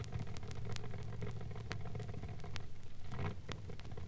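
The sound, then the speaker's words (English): An AA gas dragster engine, a gas machine driven by Tony Hannah out of Chula Vista, California, idles loudly and continuously, a rough, throbbing rumble with sharp crackling pops scattered through it and no voices. “A AA gas dragster, a gas machine.”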